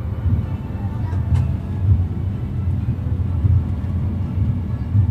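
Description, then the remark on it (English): A steady, heavy low rumble of a fast train travelling from Madrid to Cádiz, Spain, continuous with an even droning roar and faint rattles, holding constant for the whole stretch. “I leave Professor Rodriguez in the dusty rooms of the National Library in Madrid and catch the fast train to Cádiz, down to the sea.”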